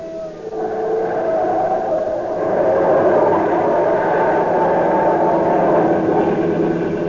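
A police siren wails steadily during a car chase over a loud, continuous roar of car engine and road noise, holding for the full length with no pauses and no voices.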